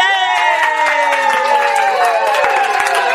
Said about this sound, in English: Listen to that crowd. And the crowd goes wild.